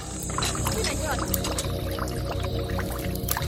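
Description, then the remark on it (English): Young girls pump water from a well in a leprosy colony in South Sudan, with a steady rhythmic mechanical pulsing and a continuous gush and splash of water, fairly loud, with indistinct voices in the background. “These young girls are pumping life-saving water from a well.”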